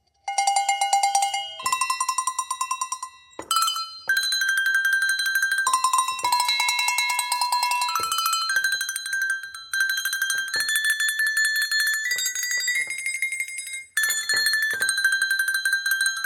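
A Chinese song played on Swiss bells: a steady run of bright, ringing metallic notes that step up and down in pitch, each tone sustained and shimmering, with no voices.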